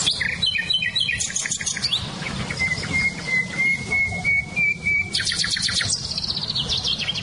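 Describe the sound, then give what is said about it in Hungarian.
Several wild birds, including nightingale, blackbird, chiffchaff and blackcap, sing at once outdoors: bright, rapid chirping trills and a long sustained whistled note, clear over a steady low background rumble, with no voices. “nem csak a fülemüle hallatszik ki, hanem például a fekete rigó, csircsa füzékének nagyon erős hangja van, vagy barátposzátak”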